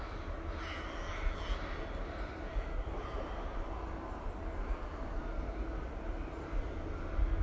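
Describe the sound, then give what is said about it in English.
A low, steady rumble of trucks, which have just started after a silence, rolls on throughout, faint and continuous, with crows cawing now and then in the open air in crow country, with a breeze blowing. “As you can hear, I'm in crow country now, and up until about 5 minutes ago I couldn't hear any trucks either, but they've now started, so the silence is broken.”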